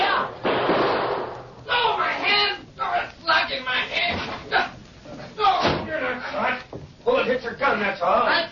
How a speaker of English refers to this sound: This gunfire will stop as soon as I...